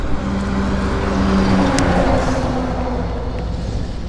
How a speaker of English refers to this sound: And boom, we are back up on Main Street. Downtown Irvington, with big trucks driving through.